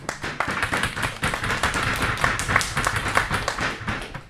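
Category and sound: crowd, clapping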